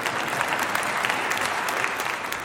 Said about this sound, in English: And by the way, here at Moody Church, I think we have the right kind of music. But you can go ahead and clap.